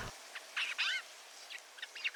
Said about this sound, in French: Le jai des chênes déploie un vaste registre vocal et une grande capacité à imiter d'autres oiseaux